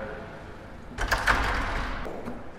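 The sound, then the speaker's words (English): The door of a photography gallery on Great Portland Street in central London opens partway with a rumbling, sliding scrape and a couple of knocking clicks, after a stretch of quiet. “There's the door.”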